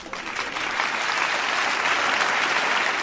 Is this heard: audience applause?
yes